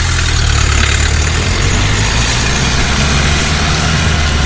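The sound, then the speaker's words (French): A car engine idles steadily at the roadside, a deep continuous rumble with a low throbbing hum that holds constant throughout, with no one speaking over it. “Au niveau de votre voiture.”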